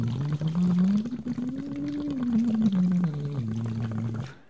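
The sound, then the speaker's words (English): A voice hums steadily through a straw attached to a plastic water bottle, blowing air into the water while doing scales, its pitch gliding up and back down while constant bubbling gurgles underneath, fairly loud, stopping abruptly at the end. “And you sing into the straw and you're blowing air through the straw and you're kind of making bubbles in the bottom and you're doing scales.”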